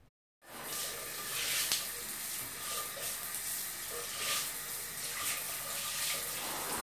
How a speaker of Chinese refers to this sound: 他瞥了女儿一眼，见女儿娇小的身子闪进浴室，接着就听见里面传出哗哗的流水声。